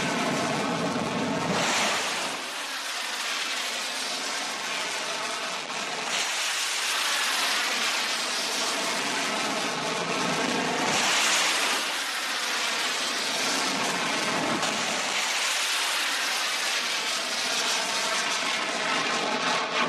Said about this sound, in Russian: Очередной удар по военным объектам ВСУ был нанесен из акватории Черного моря. Кадры залпового пуска сразу 6 крылатыми ракетами.